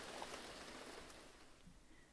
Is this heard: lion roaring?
no